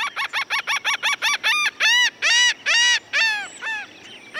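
A laughing gull calls, starting with a quick run of short nasal notes that stretch into longer, drawn-out laughing cries, loud and clear with no other sounds around it.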